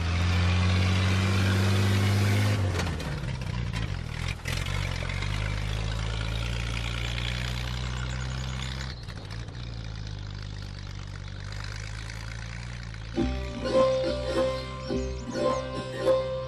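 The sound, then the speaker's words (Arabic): A car engine rumbles steadily while the car is being driven, with a rising rev early on before settling into a low, continuous idle, loud throughout, with some rattling noise near the end. “أخ ما بك يا هذا، انتبه للطريق أمامك، فالطفلة في السيارة.”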